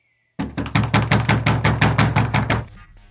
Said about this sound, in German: Endlich klopfte Kaspar an die Tür der Scheune.